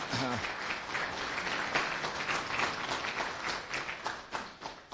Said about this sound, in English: So thank you so much to our sponsors and our co-organizers. If you think... Round of applause, yes.